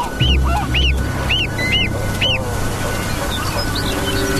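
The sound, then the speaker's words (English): A series of loud, nasal honks from adult geese on the tundra repeats in a steady rhythm, about five calls in quick succession, followed by softer, scattered calls over a low rumbling outdoor background, as the geese guard their goslings from a snowy owl. “The owls know the adult geese won't give up their young without a fight and must work together to lure the larger birds away.”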